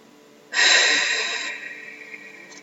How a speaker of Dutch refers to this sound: Adem langzaam in krachtig weer uit.